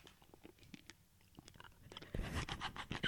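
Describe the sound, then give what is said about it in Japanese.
Crunching of a Tokuno Milk hard candy, a milk-flavored candy, being chewed: scattered sharp crackles at first, then a louder, denser burst of grinding crunches, with no talking. “ポリポリポリポリ 聞こえますか皆さん。”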